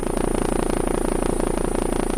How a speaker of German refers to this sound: So klingt ein Hubschrauber vom Typ EC-155 mit den heute üblichen an der Blattspitze abgerundeten Rotorblättern, die auch Christoph 25 aus Siegen hat.